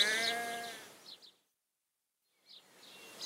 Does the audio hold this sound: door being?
no